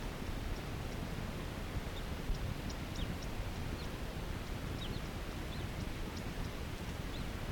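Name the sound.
male crossbill calling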